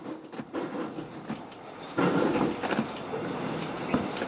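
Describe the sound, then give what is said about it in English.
A train on an hour-long ride to Box Hill rolls steadily along the rails with a broad rumbling roar and faint rhythmic clacks, swelling louder about halfway through. No one speaks. “After the hour-long train ride, she finally got to the Box Hill Bunnings”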